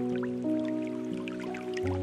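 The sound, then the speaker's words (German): Soft trickling and bubbling water, like a small brook, murmurs steadily throughout, blended with sustained gentle musical tones that hold and shift underneath. No one speaks. “Und du hörst das sanfte Plätschern eines kleinen Baches.”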